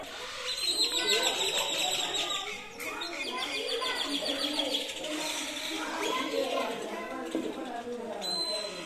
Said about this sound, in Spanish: Voy a grabar los pájaros.